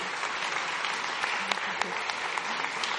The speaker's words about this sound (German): Vielen, vielen Danke. Dank und einen großen Applaus für Sie, Danke.